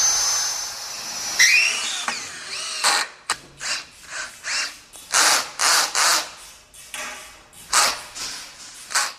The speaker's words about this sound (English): Let me see if we could just center punch right through that. Drill them holes out